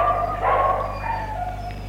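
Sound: dogs barking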